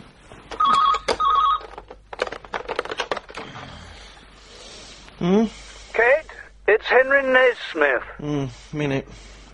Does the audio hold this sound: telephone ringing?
yes